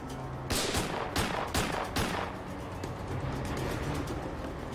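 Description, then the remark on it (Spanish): Several sharp gunshots crack out in a quick, uneven burst, about four or five loud reports within two seconds, then fade into a dull rumbling background with no voices; a man shooting at police officer Rogers. “El hombre continuó disparando al oficial Rogers.”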